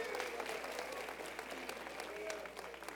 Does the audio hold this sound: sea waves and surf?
no